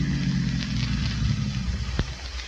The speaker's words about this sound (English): No, there's a car out there. It's been following me for the last 200 miles.